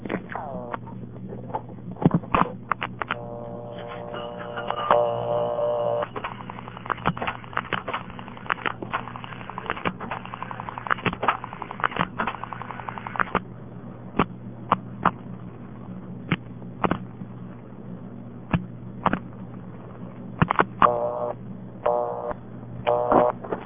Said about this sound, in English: I'll dial the payphone number. Notice when I first pick up the phone, even before I drop the dime in, you'll hear the dial tone, but it will only be about half volume. As soon as I drop the dime in, the dial tone will go on to full volume.